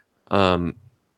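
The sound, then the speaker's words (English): A single sharp, loud bark from a pet dog, a brief voiced burst that trails off quickly into silence. “my dog is barking, and I'm really sorry for that.”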